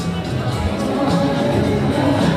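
A dense, steady murmur of many voices fills the space, a busy festival crowd eating, toasting and chattering around some sixty stalls at the Danse sur le Doubs outdoor festival, with no single speaker standing out.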